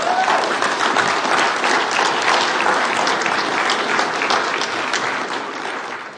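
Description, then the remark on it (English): A crowd applauds a sermon steadily for about six seconds, a dense wash of many hands clapping at an even loudness before easing off slightly at the end, with no talking over it. “I'll take that applause as a stopping point.”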